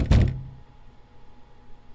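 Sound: banging on a door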